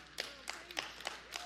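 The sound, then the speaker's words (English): Audience clapping in a short, steady rhythm, about five sharp claps in quick succession at a moderate level, with a faint voice murmuring underneath. “It's easy to clap for, but come on.”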